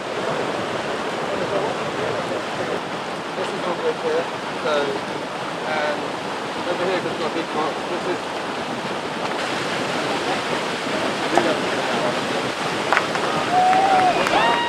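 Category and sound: nature, flowing river water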